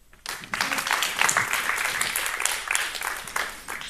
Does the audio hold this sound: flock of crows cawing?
no